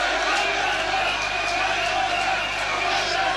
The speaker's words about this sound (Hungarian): Budaházi György bíztatja híveit. A tömeg pedig egyre hangosabb.